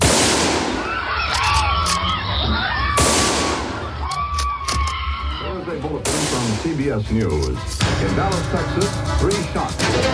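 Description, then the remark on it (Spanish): Four loud rifle shots ring out roughly every two to three seconds, each sharp crack trailing into a long echoing decay, with agitated voices and commotion underneath: a sniper firing at President Kennedy's car on Elm Street at 12:30, hitting the president and Governor Connally. “El primer disparo ha atravesado el cuello del presidente.”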